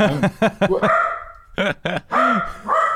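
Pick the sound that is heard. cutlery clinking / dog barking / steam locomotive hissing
dog barking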